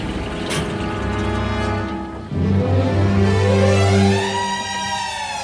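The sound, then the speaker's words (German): Marion Hastings's car pulls up in the centre of Little Shaw, its engine humming steadily, then shifting pitch as it comes to a stop, with no voices. “Im Zentrum von Little Shaw steigt Marion Hastings, Alistair Goodmans äußerst attraktive Verlobte, aus ihrem Wagen.”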